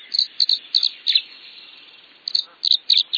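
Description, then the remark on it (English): High, clear whistled chirps of a tree swallow come in short bursts, two clusters of rapid sweet notes separated by a brief lull, over a faint background hiss. “Ornithologist David Allen Sibley describes their song as a repeated series of clear, sweet whistled phrases.”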